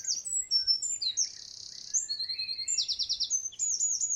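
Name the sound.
birds chirping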